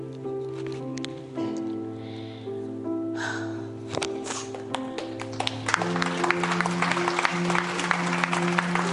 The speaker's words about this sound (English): Give Jesus a clap. Give Jesus a clap.